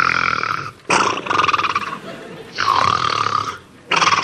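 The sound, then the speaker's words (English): Loud, rasping snores from a nanny repeat in long breaths with short pauses between, each one a harsh, buzzing rattle that swells and fades. There is no talking. “But Nanny's snoring kept him awake.”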